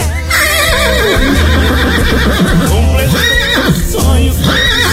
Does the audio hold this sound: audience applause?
no